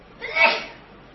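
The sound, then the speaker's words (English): A single sneeze bursts out at moderate volume, a sharp breathy blast that peaks quickly and trails off, with no talking around it. “Bless you.”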